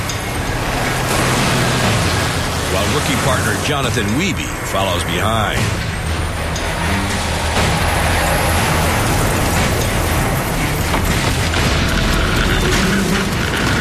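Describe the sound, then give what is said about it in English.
A screaming Ford car engine roars steadily while the vehicle jolts over rugged bush country on the winter road to Lac Rocher, with rattles and thumps throughout. A man speaks briefly over the loud, continuous noise. “The King of Obsolete is tackling rugged bush country in his screaming Ford.”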